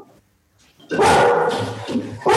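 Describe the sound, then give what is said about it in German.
A dog barks loudly with a deep, full-throated bark, after a brief quiet moment, the barking sustained for over a second before another burst at the end. “Das, ist, das war jetzt Rogi. Die Molly klingt ganz niedlich. Die hat so ein ganz helles, süßes Bellen. Das ist Boogie, das Dunkle.”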